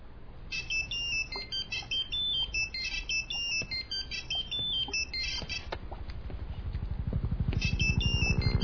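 A telephone rings with a rapid electronic trill, pulsing in repeated bursts, pausing briefly near the end before starting again over a rising low rumble.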